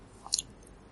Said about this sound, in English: Sip of water and we'll come to love.